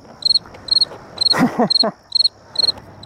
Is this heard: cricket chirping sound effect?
yes